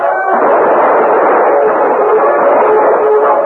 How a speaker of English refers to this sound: The Indians were caught in plain view of the hard-riding men in uniform who charged up behind them. Devastating gunfire broke out.